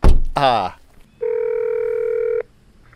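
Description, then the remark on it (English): A dull thump and a brief rising electronic chirp, then a single steady ringing tone on the line of a phone at an empty guardhouse by a Dominion Energy gate, holding about a second before cutting off, followed by quiet. “It's empty, but there's a phone.”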